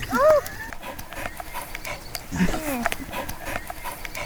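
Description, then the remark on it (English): A dog pants in quick, rasping breaths that run throughout after retrieving something, with brief voiced sounds and a short whine-like tone rising over the breathing. “Does your dog eat ice cream?”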